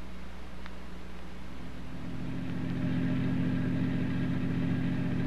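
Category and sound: vehicle, car engine running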